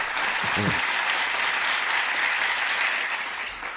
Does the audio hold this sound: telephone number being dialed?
no